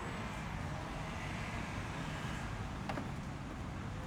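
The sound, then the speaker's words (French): Cars, many of them black, moving through city traffic in Paris make a steady, dense low rumble that never lets up, with one brief higher-pitched sound cutting through near the end. There is no talking. “Peut-être que ce sont les mêmes qui tournent dans Paris, qui tournent en rond sur toutes les places, qui se perdent dans les carrefours parisiens, qui tourne d'une rue à une autre, feu vert, feu rouge.”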